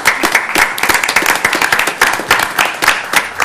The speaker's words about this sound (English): So I'd like you all, if you would, to give my staff a round of applause.